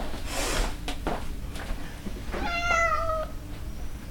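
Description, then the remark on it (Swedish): A single drawn-out meow from Pikkelini, a former stable cat, clear, with harmonics sliding downward, preceded by a few soft thumps and rustles as the cat jumps up onto a kitchen table. “En katt, Pikkelini, hoppar plötsligt upp på köksbordet.”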